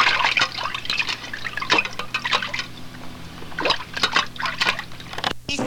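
Water splashes and sloshes in a series of bright, uneven bursts over several seconds, with dripping and trickling between them and a faint low hum underneath. No one speaks.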